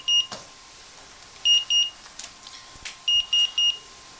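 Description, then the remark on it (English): Clear electronic beeps from a security alarm keypad, as the alarm is being armed with no entry delay and doors and windows on, ring out in short groups: one single beep, then a pair, then a quick run of three, steady in pitch, with no talking. “So now the alarm is almost ready to be armed or alarmed.”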